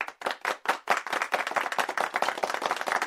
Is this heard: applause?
yes